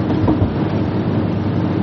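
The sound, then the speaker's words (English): A loud, steady motorcycle engine rumble right next to the speaker, a deep continuous drone with a rough, throbbing texture that holds without pause and no voices over it. “Sorry if it gets really loud for a second. There's a motorcycle next to me.”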